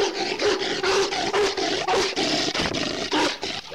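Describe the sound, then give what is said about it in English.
A sloth bear lets out rapid, harsh snarling barks, loud, in a rough rhythmic burst of about eight or nine growly calls with no pause between them. “The sloth bear's defense mechanism is to go absolutely nuts. They make crazy, snarly barking sounds while they charge the tiger.”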